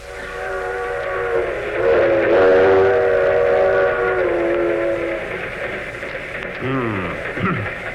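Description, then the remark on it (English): A train rumbles along steadily while a loud, sustained steam whistle blows for several seconds, its layered tone wavering slightly before fading back into the continuous rolling noise. “And Jack and Rochester missed the train at Norfolk.”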